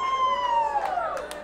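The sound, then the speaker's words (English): An audience at a morning YWAM missions session in Huntington Beach, California, cheers and claps briefly after small groups, with a long, high whoop sliding downward over steady crowd noise and a few sharp claps near the end. “Some clapping.”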